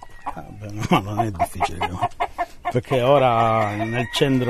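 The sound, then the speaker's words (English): Chickens in a breeder's chicken run on an Italian island, in 35-degree heat, cluck in a quick run of short, choppy bursts, then one lets out a long, drawn-out squawk before the clucking picks up again. “when chicken breeder Giovanni Ciraz and I approaches Chicken Run, one of them falls off a small wall”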